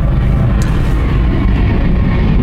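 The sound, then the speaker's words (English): A low, steady roar of an airplane passing overhead, loud and continuous throughout, with a deep rumbling texture and no voices. “there's an airplane”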